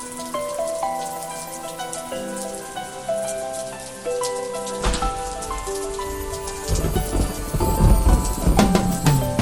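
Raindrops patter steadily alongside sustained, held musical tones, the dripping taps growing denser and louder toward the end. No one speaks.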